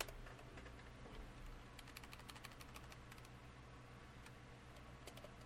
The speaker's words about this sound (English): I'm doing a Google search here. I'm typing the word atheists